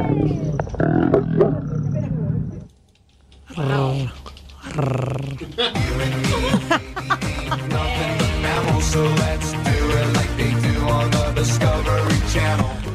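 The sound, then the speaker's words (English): A couple of lions mating on top of a safari Jeep roar and growl in loud, rumbling bursts, with a short lull early on, while tourists' voices murmur and exclaim throughout underneath the deep animal calls. “When a couple of lions jumped on top of the Jeep and started getting it on, the tourists hit record.”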